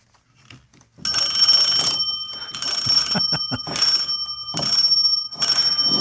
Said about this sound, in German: Ja, also Telefonklingeln aus den 20ern, sehr schön. Nur musste man darauf schauen, ich habe unterschiedlich lange geläutet. Das war noch ein Apparat, mit dem man mit der Kurbel drehen musste, da gab es noch keine Wählscheibe.